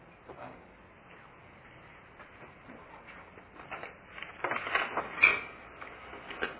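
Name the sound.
chair being moved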